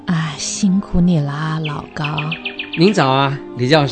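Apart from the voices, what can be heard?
small birds chirping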